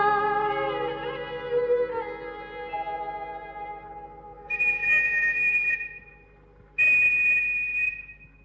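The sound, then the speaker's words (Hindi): Shrill whistles sound in a market against a sustained, echoing tonal drone, with two loud, piercing blasts near the end separated by a brief pause. No one speaks. “इस बाजार में तो सीटियां बजती ही रहती हैं।”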